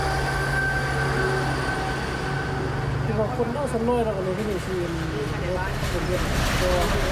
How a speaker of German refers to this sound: Nicht weit entfernt ertönt das Warnsignal des neuen Schnellzugs.